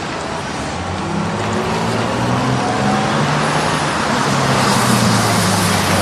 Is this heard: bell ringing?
no